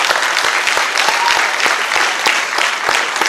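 An audience claps steadily throughout, a dense, sustained wash of many hands with scattered sharper individual claps standing out, loud and continuous with no talking over it. The audience is applauding to thank the speakers at a panel discussion.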